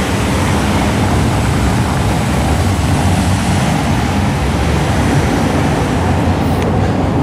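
A delivery truck idles with its hazard lights on in front of a Spar shop in Arras at 6 a.m., its engine a steady, continuous low rumble with a broad wash of street noise that stays at an even, fairly loud level throughout, with no voices.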